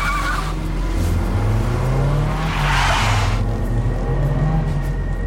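A car engine roars loudly and steadily as a man jumps in his car and speeds away, with a burst of squealing tires partway through, without any talking.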